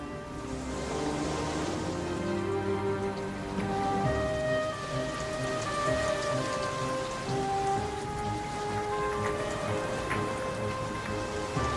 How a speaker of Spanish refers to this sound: La lluvia cubrió toda la tierra. Incluso las montañas más altas desaparecieron bajo el agua.